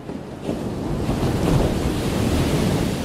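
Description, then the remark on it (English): Steady ocean surf rolls and washes continuously, a broad, rushing roar of breaking waves, with some wind buffeting mixed in and no voices. “I'd hazard to guess that you've heard the sound of ocean waves.”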